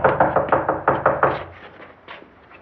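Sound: knocking on a door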